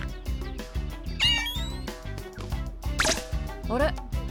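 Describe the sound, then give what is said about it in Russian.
A cat lets out three short rising meows, spaced apart, over a busy background with faint voices murmuring underneath. “Смотрите, кот.”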